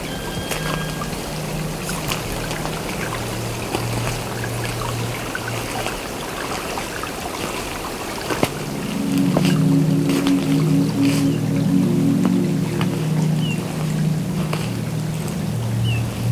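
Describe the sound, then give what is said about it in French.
A small, half-frozen brook trickles steadily beside a snowy trail, sheltered from the wind, its water carrying a low, humming gurgle that shifts to a fuller, slightly louder burble partway through. No voices are heard. “À l'abri du vent, au bord de la piste, enneigée, à moitié gelée, s'écoule ce petit ruisselet.”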